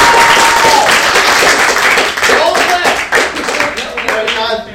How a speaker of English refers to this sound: If we all clap together, Nathan Fillion will become Green Lantern.